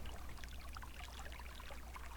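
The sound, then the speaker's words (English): Quiet water sloshing and trickling with a steady burble of small splashes and drips as a person sinks into the water. A faint low hum sits underneath, and no one speaks. “I like sinking into the water.”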